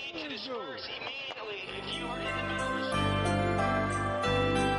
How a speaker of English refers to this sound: There's nothing like the sweet sound of tinkling bells to usher in the festive spirit.